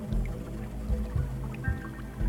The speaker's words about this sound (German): Und du hörst das leise Plätschern des kleinen Baches.